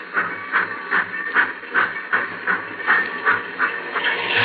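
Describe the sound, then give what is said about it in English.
A steam locomotive at the head of a long freight train chuffs steadily as it pulls away, its rhythmic hissing bursts coming about twice a second and gradually quickening, with a low rumble of the engine beneath. “The old boiler up front's got the steam up.”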